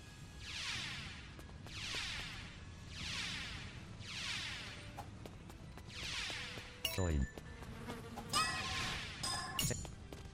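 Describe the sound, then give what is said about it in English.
A video game bee buzzing in a steady series of five short, even pulses, followed by sharp electronic hit and click effects as the player hits the bee, over a low background hum. “Wow, I hit the bee.”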